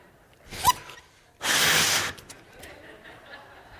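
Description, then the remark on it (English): A quick sharp intake of breath, then a single loud, breathy rush of air lasting under a second as a person blows into a balloon, followed by faint rustling. “The air that filled up this balloon and caused it to take form is the same substance that empowers it to sustain its form, to keep its form.”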